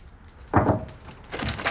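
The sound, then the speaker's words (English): A door opens: a short clunk of the latch, then a brief rush of the door swinging and scraping, with quiet room tone around it and no voices. “She opens the door to find Logan playing a computer game, listening to headphones.”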